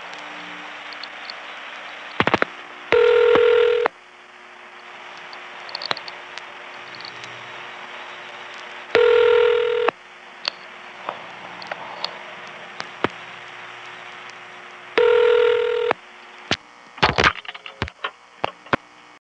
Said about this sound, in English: Fort Meade recording 1. Now a ringing number and a vacant level in that Centrex.